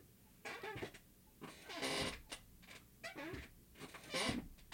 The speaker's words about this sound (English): My chair is squeaky. Oh. I said my chair is squeaky. Let's all listen to it.